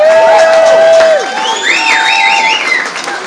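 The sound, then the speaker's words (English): An audience cheers loudly and steadily, giving a round of applause for the artists and others who took part, with shrill whistles and wavering, rising-and-falling whoops over a dense bed of crowd noise and clapping. “I'd love you to give them a round of applause.”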